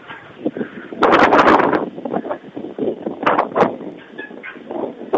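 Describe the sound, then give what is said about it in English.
Strong wind high up on a bell tower buffets the microphone in loud, roaring gusts, with the heaviest blast early on and rougher flurries following. The rumble is broad, and no clear speech is heard. “It's very windy here.”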